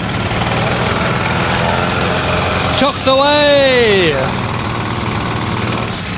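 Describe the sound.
The engine of a large grass-cutting machine drones steadily as grass is cut next door. It is loud and runs without pause the whole time. Partway through, a man's voice calls out briefly over the noise.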